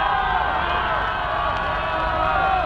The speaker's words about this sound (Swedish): Från vartenda kontor sträcker sig hundratals människor ut. Alla jublar och är glada. Budet om segern har kommit.